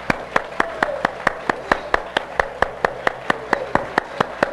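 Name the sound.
audience clapping hands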